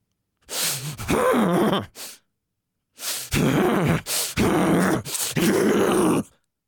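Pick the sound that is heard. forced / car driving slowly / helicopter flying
forced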